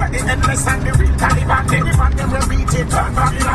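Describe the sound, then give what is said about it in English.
Steady, loud rumble of a bus interior in motion, with deep engine drone and road noise filling the cabin, plus faint murmurs of voices and occasional rattles throughout. “So here we are, on a bus.”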